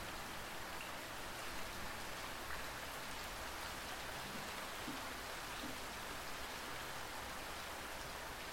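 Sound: raindrops falling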